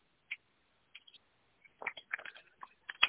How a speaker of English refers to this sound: excuse me, I'm getting a tickle in my throat. I'm going to get a sip of water.